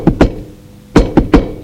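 Knocking on an office door one afternoon: two sharp raps, a short pause, then three more in a quick even rhythm. The knocks are firm and fairly loud, with a hollow woody thud and no voices.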